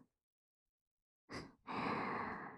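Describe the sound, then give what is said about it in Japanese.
Soft breath blown into the listener's ear to tickle it: a short airy puff followed by a longer, steady breathy exhale, hushed, with no words spoken. “これを着てこうしてキューンって腕を抱きしめて思いっきり寄りかかって、お兄さんの耳吐息でふうふうくすぐっちゃいますね。”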